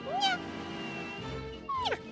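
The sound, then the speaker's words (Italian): A female kitten named Minù meows twice, a short rising-then-falling mew at the start and a second, slightly louder one near the end, over a steady humming musical background. “qui con me, come sempre, c'è la gattina Minù.”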